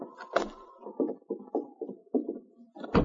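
A cabin door opens: a sharp clunk of the latch, a run of low, rhythmic creaks and knocks as it swings, then another solid thump at the end. No one speaks.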